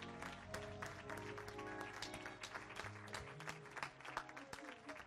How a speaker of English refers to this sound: We bless the Lord tonight. Amen. Let's give Pastor Butler a hand clap.